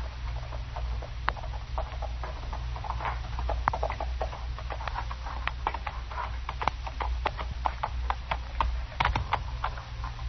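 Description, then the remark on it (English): Horse hooves clip-clop in an uneven run of sharp knocks and scuffs, continuing over a steady low rumble with no voices. “Well, let's tie my horse.”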